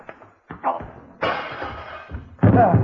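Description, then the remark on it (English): A man falls through glass French doors, breaking the glass: a scuffle of thuds and bumps builds into a loud crash, with a final heavy impact at the end and some grunting voices mixed in. “Oh, dear, I'm afraid he broke the glass of the French doors when he fell through them.”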